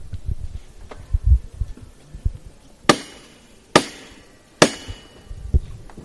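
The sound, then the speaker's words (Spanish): Three loud, sharp metallic knocks from the hammer knocker of the Señor de Granada processional float, struck by the archbishop, Monseñor Gil Tamayo, at a steady, deliberate pace, over a low murmur of an outdoor crowd. “va a tocar el martillo del Señor de Granada el señor arzobispo.”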